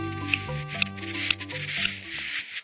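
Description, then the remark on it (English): Sharp dry clicks from a male buff-breasted sandpiper's courtship calls to a female on their breeding grounds far north of the Arctic Circle, four of them spaced about half a second apart, over a faint rustling hiss and low steady hum. “They're the calls of a male buff-breasted sandpiper courting a female on their breeding grounds far north of the Arctic Circle.”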